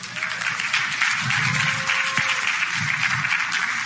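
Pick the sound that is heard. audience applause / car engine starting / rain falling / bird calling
audience applause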